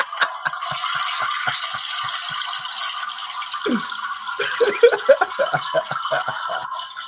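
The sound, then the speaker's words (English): A toilet flushes with a steady rush of water, a rapid rattling gurgle pulsing underneath and a burst of bubbly glugs toward the end. No one speaks. “I want to flush it again.”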